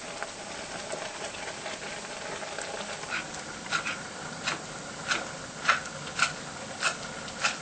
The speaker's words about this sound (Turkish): Bu sırada karıştırıyor ve kırmızı mercimeğin durumuna da bakıyorum.